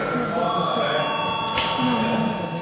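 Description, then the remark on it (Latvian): A parliament voting bell, rung before deputies vote on a budget proposal, rings in one unbroken, steady electric tone for the whole stretch, shrill and even, while a low murmur of voices carries on underneath. “Lūdzu zvanu.”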